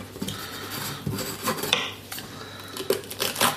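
A knife slices through a bell pepper on a cutting board, giving several crisp, irregular cuts and clicks of the blade against the board, with no talking.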